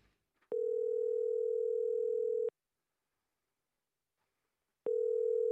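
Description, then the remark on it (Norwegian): A telephone ringback tone on an outgoing call: a steady electronic tone sounds for about two seconds, pauses in silence, then starts again, clear. “Så vi ringte som to kjente og kjære artister vi, i håp om å få snakke med Putin og Lukasjenko.”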